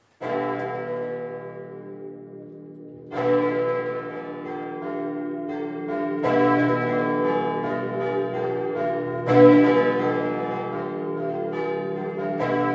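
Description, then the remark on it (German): All the church bells of the city of Bologna ring simultaneously in memory of the COVID-19 dead, in a dense, overlapping peal, with fresh loud strikes arriving every few seconds over a sustained resonant hum. No voices. “Zum Gedenken an die Corona-Toten wurden in Bologna alle Glocken der Stadt simultan geläutet.”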